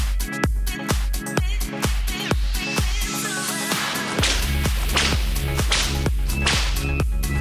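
whip crack sound effect

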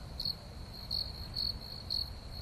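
crickets chirping

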